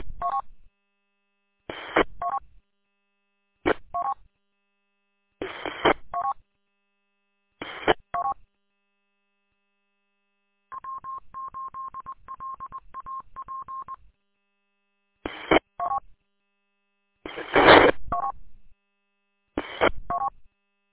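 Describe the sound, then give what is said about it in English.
Touch-tone telephone dialing: short, loud beeping key tones in irregular bursts, interrupted midway by a steady, slightly buzzy tone lasting a few seconds, then more keypresses. No voices. “I think I'll give you a call on the phone.”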